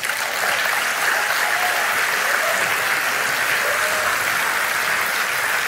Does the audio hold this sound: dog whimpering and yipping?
no